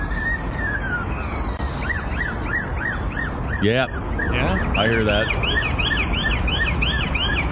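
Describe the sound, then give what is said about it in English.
A bird mimics a European-style police siren with a steady run of quick, swooping rising-and-falling whoops, fairly loud. People speak briefly over it. “Bird mimicking police siren confuses officer.”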